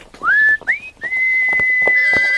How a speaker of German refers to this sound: Dieses Pfeifen heißt, dass sie Vertrauen zu dir haben können.